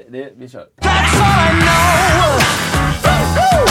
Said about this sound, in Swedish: ska jag dra igång jingeln och se vad som händer? Ja, gör det.